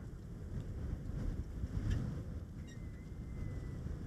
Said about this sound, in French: Le sommet est balayé d'ouest en est par des rafales.